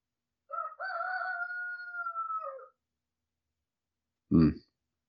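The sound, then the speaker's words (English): A rooster patrolling right outside the door crows once, a long drawn-out cock-a-doodle-doo lasting about two seconds with a steady, slightly falling tone, followed after a pause by a brief, low, loud thump. “I heard him there. He's like, you're talking about me. I hear you. Yeah, he's right outside the door.”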